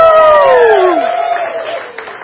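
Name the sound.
audience cheering and applauding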